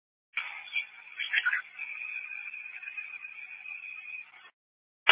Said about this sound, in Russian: Сигнализация, отбиваю. Включаем резервный вентилятор.